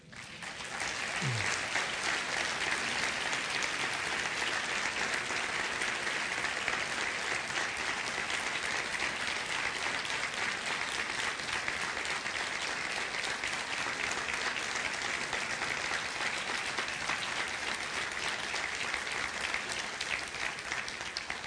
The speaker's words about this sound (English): I think that applause says it all, Pastor.